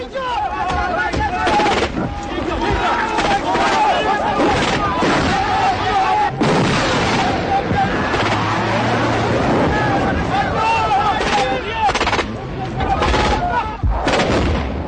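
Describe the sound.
Repeated explosions and artillery blasts boom one after another over a constant rumbling engine, loud and close, with voices speaking in between amid the dense, chaotic noise.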